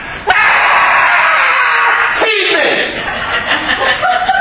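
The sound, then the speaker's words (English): A voice imitates a newborn baby screaming: a loud, shrill, sustained wail lasting several seconds, with a brief catch partway through, with no other sound. “They hand you the baby, and this is what the baby does.”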